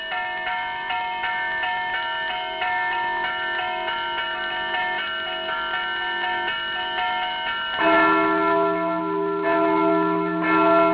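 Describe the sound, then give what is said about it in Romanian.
Church bells of the Brâncoveanu monastery ring steadily with layered, sustained harmonic tones, a deeper, louder bell joining partway through and swelling the peal; no voices are heard. “Am îndrăgit sunetul clopotelor mănăstirii Brâncoveanu, așa cum alții au îndrăgit sunetele clopotelor de la Putna.”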